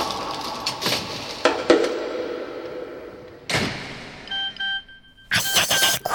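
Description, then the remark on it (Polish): Two short electronic tone pulses from a mobile phone alert sound in quick succession, clear against a quiet background, with rustling and a couple of broad thuds before and after. “Kurczę, nie włączyłam telefonu. Ciekawe, od kogo to?”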